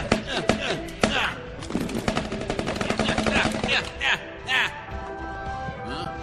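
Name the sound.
gunfire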